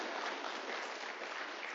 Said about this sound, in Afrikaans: Daar's hy, geef hulle hande klap.